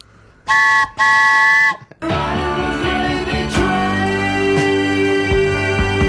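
Two loud, steady-pitched whistle toots blown to start a follow-up segment, a short blast then a longer one, followed by a busy music track that carries on to the end.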